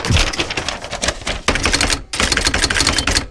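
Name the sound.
typing on a typewriter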